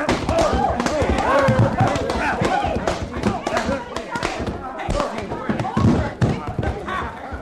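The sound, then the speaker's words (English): A loud scuffle of heavy punch thuds as a man is punched and knocked to the floor, with several dull impacts over a busy bed of voices and commotion. “You darn, you knocked his head right off his shoulders, you did.”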